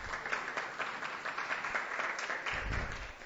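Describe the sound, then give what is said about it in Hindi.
An audience breaks into steady, dense applause with hallelujah for 12 children who accepted Jesus Christ the night before, many hands clapping together at an even intensity for the full few seconds, with a faint low murmur of voices rising near the end. “खुदावंद के हजूर हालेलुया का नारा लगाएंगे और तालियां बजाएंगे उन 12 बच्चों के लिए जिन्होंने कल रात यीशु मसीह को कबूल किया, क्योंकि ये बहुत बड़ी खुशी है।”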